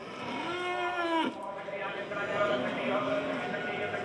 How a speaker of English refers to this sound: At the cattle mart in Camlock, a town 15 kilometres east from Crossmaglen, some 350 farmers are gathered in a mucky kind of amphitheatre, sizing up cattle parading in a pen, centre stage.